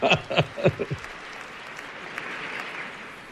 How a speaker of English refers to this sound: It says applause break on his cue card.